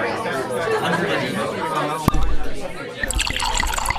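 Wine pours into a glass with a soft liquid trickle and glug, partly masked by a steady murmur of background chatter from many people.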